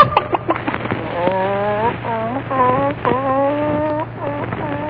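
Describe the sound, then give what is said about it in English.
A hen clucks and cackles while laying an egg, in a steady run of drawn-out, rising calls, fairly loud, over a constant low hum. “Here's your little hen.”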